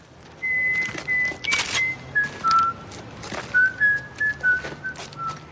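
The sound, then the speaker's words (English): A man whistles the nursery tune 'The Farmer in the Dell', the whistle of the TV character Omar Little, in clear, steady notes, with a few soft background knocks and rustles between phrases and no talking. “Stringer Bell, the NBA pursuing henchmen, and more than anyone else, Omar Little, the gay, farmer in the Dell whistling robber and murderer.”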